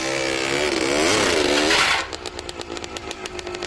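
The engine of an over-engineered homemade snowmobile, driven by a washing machine drum, revs loudly, its pitch rising and falling for a couple of seconds, then settles into a quieter, rapid rhythmic chugging like a small motor idling.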